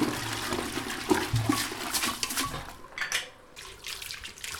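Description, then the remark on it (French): Water runs and splashes steadily as a bathroom is cleaned on the day the water supply arrives, a broad hissing wash with a few clunks and scrubbing knocks underneath, no voices. “Je profite aussi d'avoir de l'eau pour nettoyer la salle de bain.”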